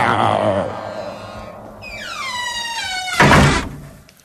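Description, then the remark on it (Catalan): A door swings shut: a drawn-out hinge squeak slides downward in pitch, then a single solid thump lands and fades quickly. “Va, tanqueu ja la porta i tanqueu la Sirena.”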